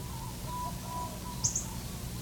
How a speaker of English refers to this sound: This is a minor bird in about in a hedge of Norfolk pine on the edge of the orchard.